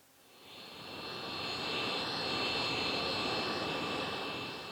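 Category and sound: vehicle, airplane landing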